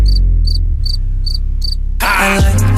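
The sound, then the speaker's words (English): Five evenly spaced cricket chirps ring out in a steady rhythm over a deep, heavy bass beat, then the music surges into a loud, bright, full section. “Money talks when you with your ex. All you hear is crickets.”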